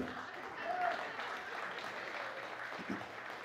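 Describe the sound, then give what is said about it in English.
A Christian sermon audience claps in a steady, dense wash of applause that holds at an even, moderate level for a few seconds, with faint murmuring voices mixed underneath. “You can clap.”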